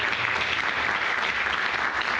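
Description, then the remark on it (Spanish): Sustained audience applause after a conference talk fills the whole moment, a dense, steady crackle of many hands clapping at once with no pauses or voices cutting through. “Doctora, entonces queremos desde acá darle un fuerte aplauso por esta importante, enriquecedora y significativa conferencia que nos ha aportado.”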